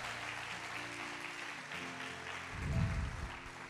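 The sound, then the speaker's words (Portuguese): A church audience applauds Jesus in a steady wash of clapping, with sustained low organ or keyboard tones underneath and a louder swell of sound near the end. “Vamos aplaudir Jesus, irmão.”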